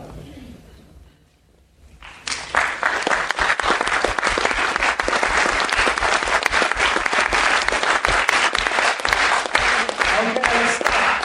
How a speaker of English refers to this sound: Good. 4 seconds, 5 seconds. Every group I've ever tried that with over the years has been able to pull that off. And every group claps at a different rhythm. I did not show you at which rhythm to clap, and yet you figured it out.